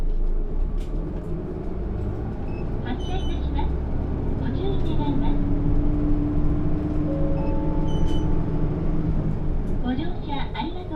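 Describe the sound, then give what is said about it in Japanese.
A bus engine rumbles steadily, low and continuous, with faint clatters and brief high chimes or beeps over the top as the bus, bound for Aburatsubo Onsen in Japan, departs from a stop. “発車いたします。”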